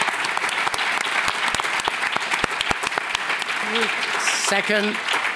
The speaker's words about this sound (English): So please thank you for a round of applause.